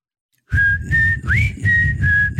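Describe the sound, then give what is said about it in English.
A person whistles a short tune in clear, sustained notes with a brief upward slide, fairly loud, with a low background hum beneath and no talking. “Can whistle, though.”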